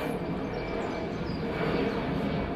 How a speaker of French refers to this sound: On va avoir le droit comme ça à des avions toutes les 90 secondes ? Ce sont les chiffres qui sont avancés par l'aéroport de Genève-Cointrin.